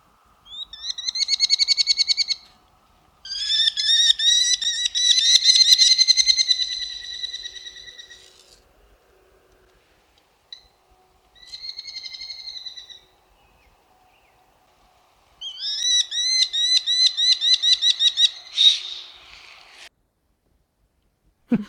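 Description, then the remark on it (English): Kestrel calls: bursts of rapid, repetitive, high-pitched squeaky notes in several volleys separated by short pauses, the last a frantic alarm sequence. No talking. “That last one was a little alarm call. Yeah, very distinctive, very repetitive, like a little squeaky, I think.”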